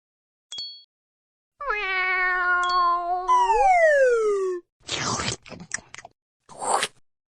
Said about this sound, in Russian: Кошка.